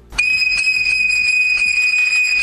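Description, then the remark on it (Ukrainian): A Trypillian clay souvenir whistle (svyshchyk) from Ozolytsia, Ukraine, blown in one steady, shrill tone that holds a single high pitch for over two seconds, loud and unbroken, with faint breathy pulses underneath. “Сьогодні трипільський свищик з озолицю, який став одним із неофіційних символів європейського футбольного чемпіонату, можна купити у сувенірних крамницях або замовити в мережі.”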